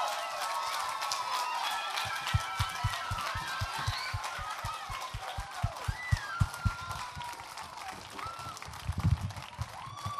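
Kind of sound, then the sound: crowd, applause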